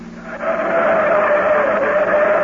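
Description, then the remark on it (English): A new car's engine roars steadily at high revs as it speeds along a steep grade with sharp turns, a strained, continuous drone with a sustained tonal whine, loud throughout with no voices. “Take it easy, Darryl. This is a steep grade. Quit worrying. The new car handles great.”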